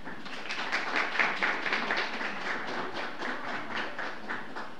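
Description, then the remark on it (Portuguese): A warm round of applause for an honoree at a city council tribute ceremony, many hands clapping in a dense, steady patter that holds at an even level for about five seconds, with no voices. “Calorosa salva de palmas.”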